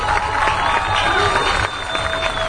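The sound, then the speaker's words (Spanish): An audience at a forum in El Grullo applauds honored artist Lavinia Negrete, a dense, continuous wash of clapping at an even loudness for a couple of seconds, with crowd voices mixed underneath. “Un aplauso para Lavinia, por favor.”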